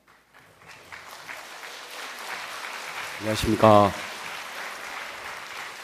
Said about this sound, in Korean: 박수는 오늘 한 번만 쳐주십시오. 예. 내일부터 안 쳐셔도 되겠습니다.